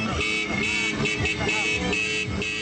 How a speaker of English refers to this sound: Jordanians responded to the worst terror attacks in their country with defiance and pledges of national unity. They cruised the streets in cars, honking their horns and waving the kingdom's four-color flag.